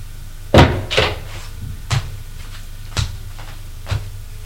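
A door closes with a solid thud as someone enters a small sitting room, followed by a few lighter knocks and clunks spaced about a second apart, fading quieter, with no one talking.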